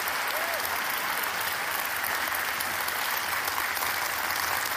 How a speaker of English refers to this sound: Usually nobody claps for me.